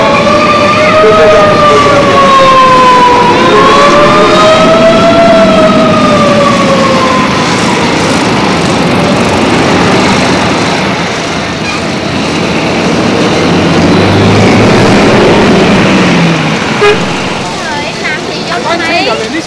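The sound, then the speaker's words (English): Dense, loud street traffic of scooters, trucks, bicycles and jeeps in Saigon, Vietnam, roars continuously, with wailing, wavering horn tones sounding over the din during the first several seconds and scattered horn blasts later on. “For Saigon streets are the noisiest, riskiest no man's land in Vietnam.”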